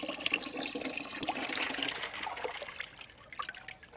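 Cool water pours steadily into a basin of hot water for a patient's foot soak, cooling it down; a continuous splashing and trickling that gradually thins out toward the end.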